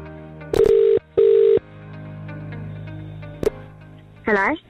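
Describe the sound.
Two long electronic ring tones of an outgoing phone call to a number picked at random from a database sound at an even pace, followed by a low hum, a short click and a brief burst of a voice answering on the line.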